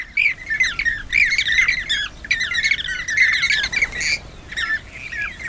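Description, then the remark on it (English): A flock of bee-eaters calling continuously, with many overlapping rolling, trilling chirps and squawks forming a busy, dense chorus throughout. “Sounds to me like a bird called the bee eater. Well, several of them, a flock of them.”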